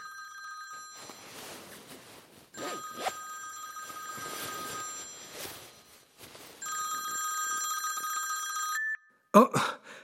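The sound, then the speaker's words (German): A telephone rings in three long, trilling bursts separated by short pauses, then cuts off abruptly with a brief clatter as if the receiver is picked up. “Ach, sag mir zum Beispiel, was man morgen für Wetter kann, oder was mein Autobus Verspätung hat, und das alles mit dem Telefon.”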